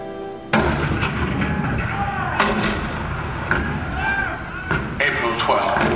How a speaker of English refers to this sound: April 12, 1861, Fort Sumter. The cannon spoke for war. Bitter, violent, and devastating.